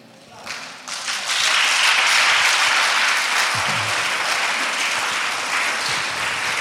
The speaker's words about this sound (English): All right, only 4 people clapped. It's okay.